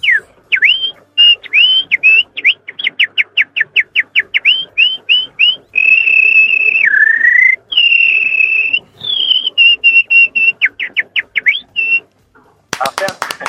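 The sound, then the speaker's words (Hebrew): A person whistles an imitation of birdsong: rapid runs of short, high chirps broken by longer sustained, warbling tones, one dipping lower, then more quick chirps before a brief noisy burst at the end. “כן, אתם מכירים ציפור כנר במקרה?”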